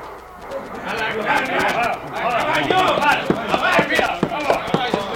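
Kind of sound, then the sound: animal, horse hooves clip-clopping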